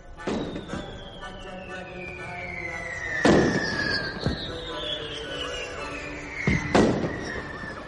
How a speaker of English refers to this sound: these fireworks cost money, you know.